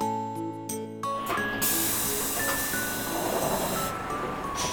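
A short musical chime fades out and gives way to steady, fairly loud noise of a train running, in the Lucky Star drama CD scene 'Autumn Dozing Train': a broad rushing hiss over low rumble, with faint whining tones drifting through, and no voices.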